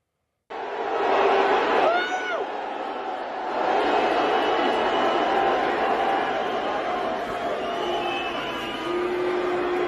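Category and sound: crowd, crowd booing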